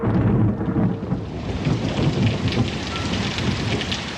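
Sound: thunder and torrential rain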